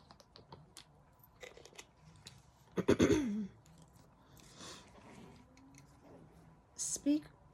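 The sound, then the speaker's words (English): Someone drinks water: a few soft mouth clicks and a quick, loud gulping swallow, then quiet handling noise and a short throat-clearing sound near the end, with no talking. “I'm just going to drink some water.”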